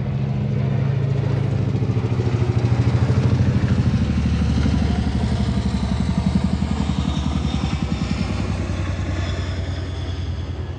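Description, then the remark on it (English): A CH-47 helicopter, a model built in 1947, flies over the house, its twin rotors beating a loud, rapid, deep thumping rhythm over a steady engine roar that holds strong throughout, with no voices. “My favorite helicopter flying right over the house.”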